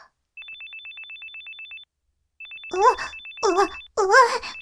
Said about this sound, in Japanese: お電話。はいはい。今出ますよーっと。